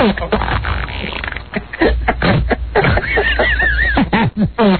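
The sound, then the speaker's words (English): A rapid string of loud farts from a man lying on his back with his legs up in the air, wet sputtering bursts broken by a higher squeaky, wavering one near the end, with faint voices mixed in. “Because for me, I could watch a guy on his back with his legs up in the air farting all day long.”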